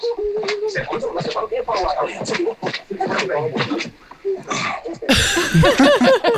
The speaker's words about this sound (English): Hello. My dad comes up and starts breathing down the phone.